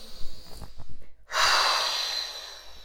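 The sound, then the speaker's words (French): A long, deep exhale during a guided relaxation breathing exercise follows a brief pause, a steady breathy rush of air that starts strong and slowly tapers off, clear with no talking. “Nous soufflons au loin toutes ces tensions inutiles.”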